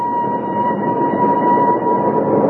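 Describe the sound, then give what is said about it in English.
A train pulls into a station with a loud, continuous rumble and a steady, sustained whistle-like tone held over it the whole time. Nobody speaks. “Oh, I hope he's on this train”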